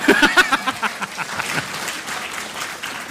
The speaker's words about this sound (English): We can applaud for that.